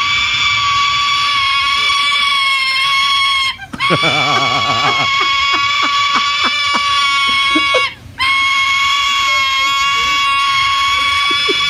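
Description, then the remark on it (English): A hungry juvenile silver-crusted cockatoo begs for food with loud, harsh, nasal screeching that runs almost nonstop, broken by two short pauses, with a wavering, stuttering stretch early on. “Yeah, and this juvenile silver-crusted cockatoo is hungry, and this is the sound they make when they want to be fed.”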